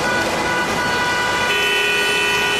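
Dense street traffic rumbles steadily at midday during a major storm as people rush home, while car horns sound repeatedly, with one sustained honk starting partway through and holding to the end. No one speaks.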